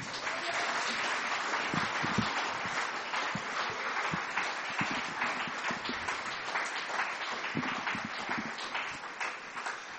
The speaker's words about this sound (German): Applaus